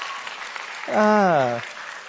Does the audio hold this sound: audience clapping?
yes